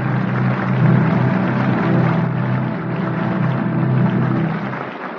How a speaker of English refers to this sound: I'm sure our radio listeners join the audience in the theater tonight applauding the performance of Irene Dunne and the rest of tonight's cast on the Cavalcade of America.